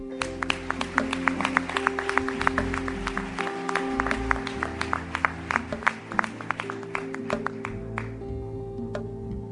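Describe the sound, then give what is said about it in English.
An audience applauds steadily for the whole stretch, a dense patter of many hands with sharp individual claps popping out over a low, sustained hum, at a church service after ministries are announced. “I love the applause, but let's sign up as well, okay, you guys?”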